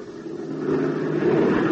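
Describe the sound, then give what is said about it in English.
An aeroplane engine, on a plane used for prospecting to locate a mining claim, drones steadily, a low humming roar with layered tones that swells slightly louder over its short span, with no voices. “Who in the world ever heard of prospecting from an aeroplane?”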